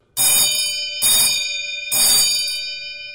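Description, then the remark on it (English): A small metal bell of a servant call bell system in a historic Texas home, used to ring the kitchen for service, rings three times in quick succession, each bright, shimmering strike ringing on and overlapping the next, fairly loud with no voices. “It still has working features from its past, such as a bell system to ring the kitchen for service.”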